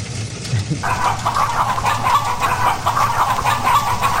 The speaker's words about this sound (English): Why are there chickens? I don't know why the chickens popped up.